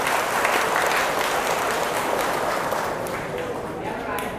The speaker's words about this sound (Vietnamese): Chỉ có chưa đầy 10 người trên tổng số 700 người. Đó là con số khá lý tưởng. Hãy dâng cao một tràng vỗ tay để tán thưởng những người không nghiện thuốc.